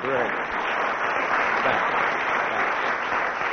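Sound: audience applause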